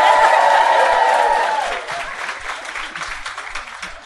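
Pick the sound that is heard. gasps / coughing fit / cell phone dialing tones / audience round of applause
audience round of applause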